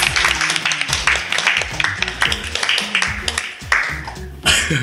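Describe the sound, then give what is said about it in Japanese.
Sharp, loud hand claps by a dance teacher strike in a steady, fast rhythm during a dance lesson over music with a bass line, continuing throughout, with a brighter wash of sound near the end. “その拍手がいいですね。 はい、音でかいんですよね。”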